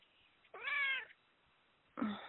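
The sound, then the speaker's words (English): A cat lets out a clear, drawn-out meow, followed by a pause and then the start of a second meow, fairly loud with no one talking. “Yes, and your kitty just said, yes, that's right.”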